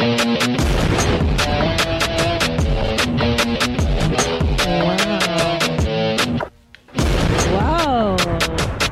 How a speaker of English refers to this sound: You're conducting the orchestra today. Oh, violins, everybody. Explosions higher, yes.